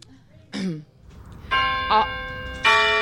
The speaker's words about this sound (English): where's the bell?